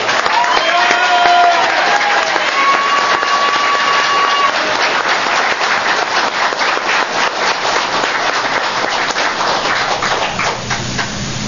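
Steady audience applause fills the whole stretch, a dense wash of many hands clapping at an even loudness, with a few whistles and cheers rising over it near the start.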